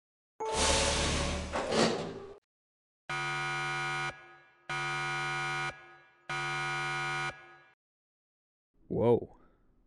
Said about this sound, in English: Airlock door 2 opening now.